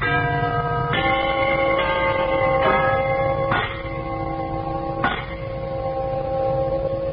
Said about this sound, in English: we want you to listen to a set of these genuine brass door chimes